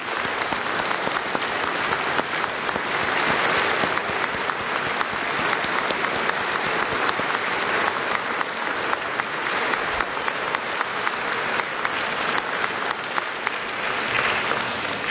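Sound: audience applauding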